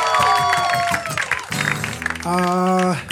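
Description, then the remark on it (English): A crowd claps and cheers loudly for JBTV for a few seconds, with steady hand-clapping noise under sustained whoops and shouted voices that rise and hold toward the end. “Real quick, make a round of applause for JBTV, huh?”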